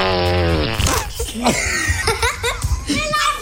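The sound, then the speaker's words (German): A long, buzzy whoopee cushion blast with a steady droning tone as a person sits down on the cushion placed on a chair as an April Fools' prank, fading out, followed by scattered laughter and snickering voices. “Der legt ihm nämlich schon seit dem Wochenende ständig sein Furzkissen auf den Stuhl.”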